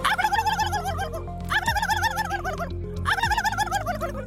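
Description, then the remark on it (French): A person imitates a turkey's gobble at an international turkey-calling competition, three loud, rapid warbling bursts, each a quick wavering yodel-like trill, with a steady low hum running underneath. “Et la lauréate du international, du cri du dindon est ….”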